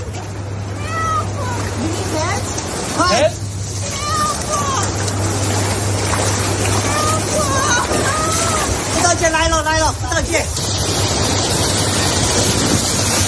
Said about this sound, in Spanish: Estaba el mar picadito.